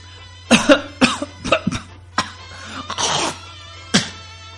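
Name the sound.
coughing on request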